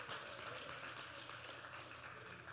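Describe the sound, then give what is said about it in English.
An audience claps their hands together in a steady, dense burst of applause that stays even and sustained throughout, with overlapping claps and no clear voices. “Would you clap your hands and say hallelujah?”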